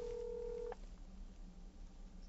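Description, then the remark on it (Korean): A telephone dialing tone sounds as one steady, two-pitched beep held for under a second, ending with a soft click, as someone places a phone call, followed by faint low room hum and no talking. “전화를 한번.”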